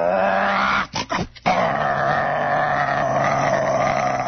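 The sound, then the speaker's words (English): A voice growls and rumbles loudly in imitation of an old car with a rattling muffler and pouring exhaust pulling away as a traffic light changes, a sustained throaty roar broken by a few brief sputtering gaps before it surges back steadily. “It changed, go ahead, and boy, that old muffler is rattling, and that exhaust is a pouring out there.”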